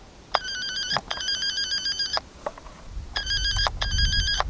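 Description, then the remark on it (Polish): A taped-over door intercom at a closed shelter facility in Zgierz, Poland rings with a bright, buzzy electronic tone in repeated bursts, two rings, a short pause, then two more, with a low rumble underneath toward the end; no one answers. “Domofon zaklejony.”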